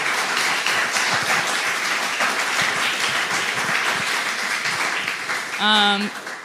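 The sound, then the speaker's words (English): Steady crowd applause, a dense wash of many hands clapping at once, with a brief voiced whoop or cheer rising near the end, as an audience applauds at the close of a panel discussion. “That we can clap.”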